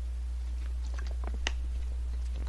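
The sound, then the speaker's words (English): Someone quietly sips water: small wet mouth clicks and a soft gulp midway, over a steady low background hum, with no talking. “Excuse me, I gotta take a Trump sip, you know, drink some water.”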